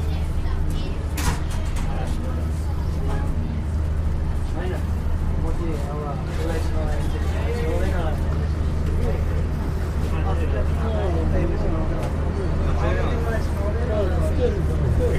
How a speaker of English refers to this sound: Stand clear, doors closing. Welcome aboard. This is a train service to Gawler. The next stop is Ovingham.